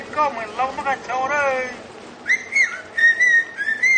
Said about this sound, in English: you can see that they are, in fact, whistling the speech.